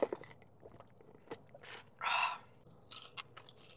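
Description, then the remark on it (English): Crunchy bites and chewing of Taco Bell crispy strips: a run of sharp, crackly bursts with one louder, longer crunch partway through, followed by a few softer crisp chews. No one speaks. “I also got their crispy strips again.”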